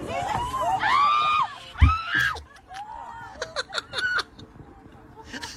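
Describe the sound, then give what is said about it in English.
Passengers on a Delta flight scream and shriek in high, arching bursts as a loose pigeon gets on board the plane, with excited laughter and crowd commotion mixed in, followed by sharp scattered squeals and clatter. “Let's hear some screams on a Delta flight as a loose pigeon is snuck its way on board.”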